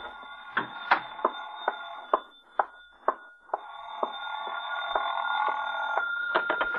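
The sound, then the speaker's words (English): A telephone rings steadily for several seconds, a sustained bright tone threaded with regular mechanical clicks, moderately loud, with no voices. “Oh, excuse me, the phone.”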